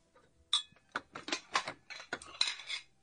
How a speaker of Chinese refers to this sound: 哎呦，这么多碗筷可真沉呐。